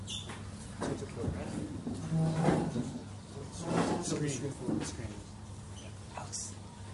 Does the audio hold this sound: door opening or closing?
yes